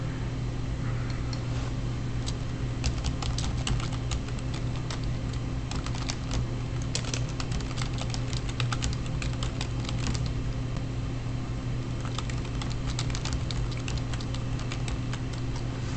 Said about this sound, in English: Typing in the chat room there, folks.